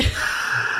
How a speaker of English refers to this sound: Sorry, just listening to the snore. It's kind of so cute.